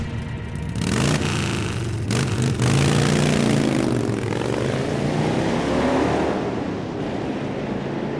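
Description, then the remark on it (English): Motorcycle engines rev in the distance, a steady droning roar whose pitch swells and falls across several seconds, with no voices over it. “And it's right about that time, because you've been lingering here, that off in the distance you hear motorcycle engines revving in the distance.”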